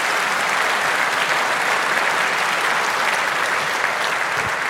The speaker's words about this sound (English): But before that, another round of applause. I think this was great.